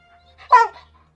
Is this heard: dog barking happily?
yes